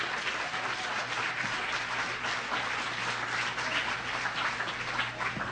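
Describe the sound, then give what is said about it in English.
A crowd gives one more round of applause for a person at the close of an event. The clapping is steady, with dense overlapping claps forming a continuous, even wash of sound that holds at a consistent level for several seconds without any talking. “And let's give Andy one more round of applause.”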